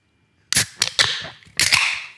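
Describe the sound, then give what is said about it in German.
Two cans of an 8% mango beer crack open one after the other, each a sharp snap of the tab followed by a loud, fizzy rush of escaping carbonation. “Und hier kommt das Geröff von das Brewski. Das Jubiläumsgeröff.”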